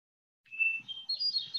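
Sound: hermit thrush song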